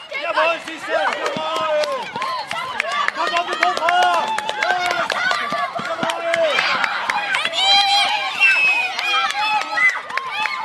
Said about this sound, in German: Selbst die Lehrerinnen und Lehrer feuern ihre Klasse, wie hier beim Staffellauf, mit großem Enthusiasmus an.